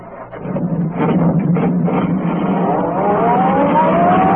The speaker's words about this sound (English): Turning onto the road, Betrie pressed down on the accelerator. The sedan sped along the concrete after Brinkley's car.